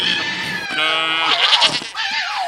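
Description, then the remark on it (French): Several hungry goats bleat loudly, their wavering, nasal cries overlapping in a continuous insistent chorus with no pauses and no talking. “Oui, le bruit des chèvres quand elles ont faim.”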